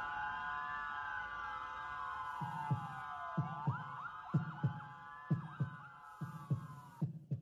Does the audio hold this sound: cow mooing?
no